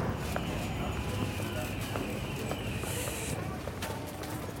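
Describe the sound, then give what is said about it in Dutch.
Footsteps of people walking along a city street to the café Slemmer: scattered, uneven steps that are fairly faint against a steady wash of outdoor traffic and street noise, with a brief hiss partway through. “Ja, nou, we moeten nog even lopen hoor.”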